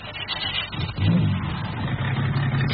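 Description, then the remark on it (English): A white convertible car's engine rumbles steadily, then revs up with a surge of louder, rising drone before settling into a sustained low hum. No voices are heard. “Can I try the motor?”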